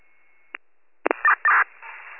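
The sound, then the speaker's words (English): A fire radio dispatch channel sends cancellation tones: a steady mid-pitched tone, then a short click, followed by a burst of clipped electronic tone bursts and static-laden transmission, loud and without talk. “I'm dropping cancellation tones now.”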